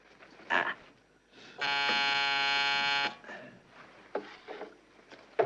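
A call buzzer rings in one steady, harsh electric drone lasting about a second and a half, loud and evenly pitched, with faint shuffling and murmuring sounds before and after it; the colonel ringing his call bell.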